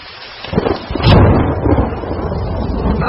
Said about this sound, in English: Rain, rain, go away. Get out of here, rain. No one wants you around.